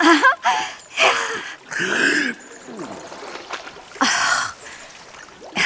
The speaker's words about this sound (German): Er taucht ins dunkle Wasser hinab, der eklige Wasserpatscher.